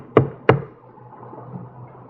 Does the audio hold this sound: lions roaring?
no